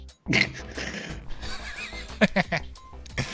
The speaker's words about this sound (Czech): Kůň. No! Jo? No, je to takový kůň.